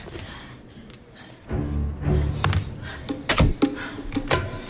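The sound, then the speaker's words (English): A door, unlocked with a watch, swings open with a low rumbling scrape and a click, followed by a couple of sharp, loud knocks as it shuts again; no one speaks. “He just opened the door with his watch.”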